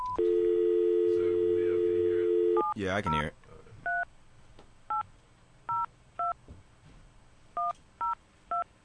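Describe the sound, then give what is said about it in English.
A steady telephone dial tone hums for a couple of seconds, then a brief clatter, followed by about seven short touch-tone beeps in uneven bursts as a call is dialed on a studio phone being put on air. A voice briefly speaks underneath. “So do that, hit call one, and then hit this on the board to put the phones on air.”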